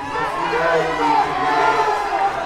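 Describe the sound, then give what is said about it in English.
A large crowd at a memorial in Dayton, Ohio, chants "Do something!" at DeWine, many voices together in a dense, sustained roar, steady and fairly loud throughout, with overlapping shouting in unison that drowns out his remarks. “The chant eventually drowned out DeWine's remarks.”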